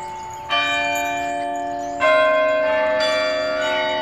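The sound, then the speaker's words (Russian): Church bells rung with levers, the podzvonnye and zazvonnye bells sounding together, ring out in layered, overlapping strikes, with new clangs entering roughly every second and a half over a sustained, shimmering hum of ringing tones, fairly loud. “Послушайте, как будут звучать колокола подзвонные и зазвонные, если их вместе совместить.”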